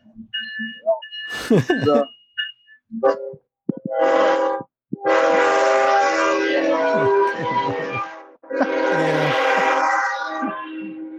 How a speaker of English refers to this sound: Here comes this fucking train again. You don't really know. Jeez, man, that thing just blows it.